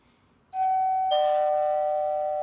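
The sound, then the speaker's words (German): A doorbell rings with two chimed tones, a higher note followed by a lower one, each sustaining and ringing out clearly with no voices present. “Es klingelt.”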